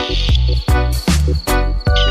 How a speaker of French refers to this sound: Est-ce que tu as entendu le chant des perdrix?